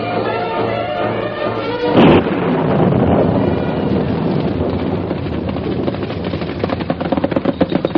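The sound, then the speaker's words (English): A sudden crack of thunder breaks in as a storm comes on at night, then a long, heavy rumble rolls on with a loud, windy roar, over a low sustained tone at the start. “A round up at night with the storm coming on?”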